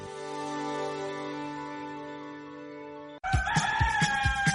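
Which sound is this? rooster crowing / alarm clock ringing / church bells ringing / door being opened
rooster crowing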